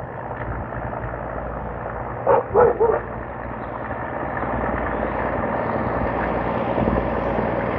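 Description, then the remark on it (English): A dog barks three times in quick succession over a steady, loud engine-like rumble that continues throughout. “Started to see the same people, and the mailman wanted me to check and see if he saw a pit bull out here.”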